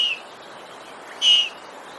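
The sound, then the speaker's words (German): A lynx cub calling: two short, thin, high-pitched whistling cries, the first at the very start and a louder one a second later, over faint background hiss. “Und so hört sich das bei einem Babyluchs an.”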